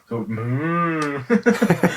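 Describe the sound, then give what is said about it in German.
A voice imitates a moaning, creaking door with one drawn-out groan that swells and sinks over about a second, fairly loud, followed by a burst of quick talking. “Da nehme ich es eher als so ein und auf der CVS habe ich immer so ein Türknarzen oder wie so eine Kuh, so hört sich das ja so ein bisschen an.”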